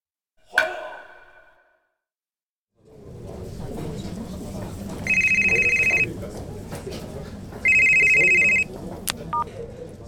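A telephone rings in two short, bright bursts over a busy background of indistinct murmuring voices, after a single sharp chime and a brief silence at the start.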